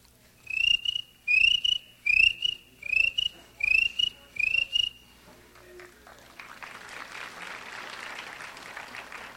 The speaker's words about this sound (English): Crickets.